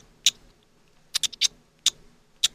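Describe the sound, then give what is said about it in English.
A person imitates a parakeet with about six sharp, high-pitched chirps in quick, uneven bursts, including a tight cluster of three, with quiet gaps between and no talking. “I can do parakeet.”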